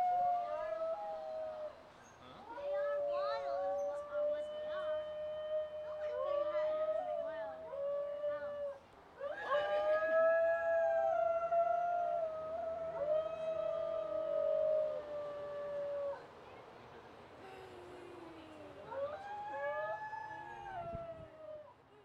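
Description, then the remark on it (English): A group of singing dogs at the Palm Beach Zoo in West Palm Beach howls together in an eerie chorus, overlapping long, wavering tones that rise and fall in pitch, steady throughout. “But of course, we turned our backs and now they're singing.”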